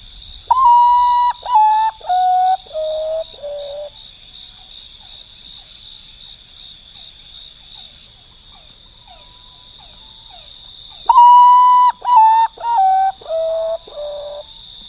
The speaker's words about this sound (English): And then the other favorite of mine, for similar but almost opposite reasons, is also from Costa Rica. I love the sound of the common potu, and that's a nocturnal bird that just has this sort of haunting call.